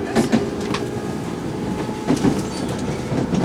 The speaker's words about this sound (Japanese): この電車は8時36分発横浜線直通の八王子駅です。この先終点八王子まで横浜線の各駅に停車いたします。